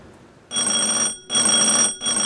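A loud electric service buzzer on the counter of Jimbo's country store, which seems empty, pressed repeatedly: three harsh steady bursts of about half a second each with brief gaps between, with no voices.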